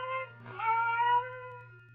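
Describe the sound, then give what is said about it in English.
A single drawn-out, plaintive meow of one cat, soft and faint, rising slightly and then trailing off over a low, steady background hum. “Then the silence was broken by the faint crying of one cat.”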